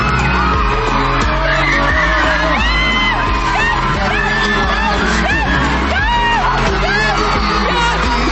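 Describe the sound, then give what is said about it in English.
A large television studio audience screams and cheers wildly as a brand new car is given away to teachers on stage, with overlapping whoops, yells and shrieks rising in a dense, sustained roar for the whole stretch. “I love the crowd at the Oprah show.”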